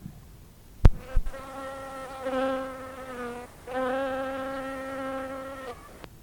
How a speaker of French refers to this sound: Pendant la prière, une mouche était venue se poser sur le dossier du banc devant Tom.